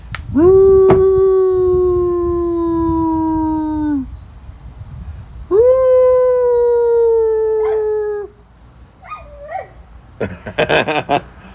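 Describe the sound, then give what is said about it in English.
A female dog, Rainer, gives two long, steady howls, each held for several seconds with a brief pause between them, followed by a few short, whiny yelps and a rough burst of noise at the end. “I bet I can get her to howl.”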